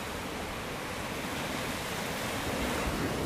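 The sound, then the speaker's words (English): Steady wash of ocean surf lapping on an empty beach at 8:45 in the morning, a continuous broad hiss of water with soft low rumble, gently swelling louder toward the end, with no voices. “Man, I gotta tell you, there's something about coming out here at 8:45 in the morning and just sitting on the beach and just looking out at the ripples and the waves. I mean, you can hear it.”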